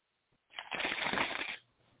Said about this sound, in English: Now ball that down. Now look away from your TV. Ball that piece of paper up. Ball it up. Let me hear it. Ball up.